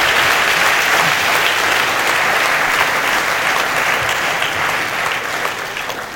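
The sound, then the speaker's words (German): A large audience applauds a participant, clapping steadily and loudly for about six seconds, a dense sustained wash of applause that stays strong throughout and only slightly thins toward the end. “Aber ich gebe dir die Stange mal mit, dein Geld und ein riesiger Applaus”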